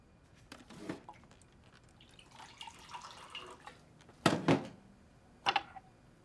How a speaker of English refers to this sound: He pours himself a glass of water from a pitcher on the counter.